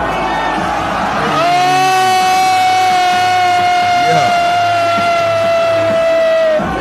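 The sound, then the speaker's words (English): A crowd roars and cheers continuously as a man stands up and walks, while a long, steady, horn-like tone holds loudly over the noise for several seconds before cutting off. “But listen to the crowd. Watch the crowd.”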